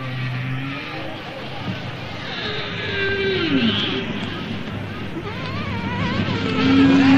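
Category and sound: insect, mosquito buzzing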